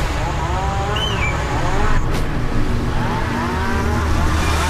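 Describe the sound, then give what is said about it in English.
Far-off chainsaws cutting trees in the woods drone steadily, their whining engine tone rising and falling in pitch over a constant low rumble, with no voices present. “With his work done for the day, Eustace heads into the woods to investigate the sounds of far-off chainsaws.”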